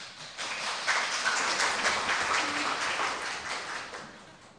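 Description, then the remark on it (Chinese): A lecture audience claps steadily to thank the speaker, Dr. Hou Kunhong, after his talk on Buddhism, a dense patter of many hands that holds fairly even for several seconds before tapering slightly at the end. No voices stand out. “我们这一场就到这边，我们再次以热烈掌声谢谢侯坤宏侯博士。”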